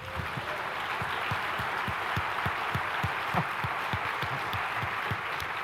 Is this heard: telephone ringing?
no